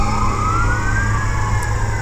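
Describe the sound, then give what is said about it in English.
Fire engine and ambulance sirens wail steadily and loudly over a deep, rumbling engine roar as fire department vehicles and several ambulances pass by on Blondo Street, with no talking. “The fire department and some ambulances are going by on Blondo Street.”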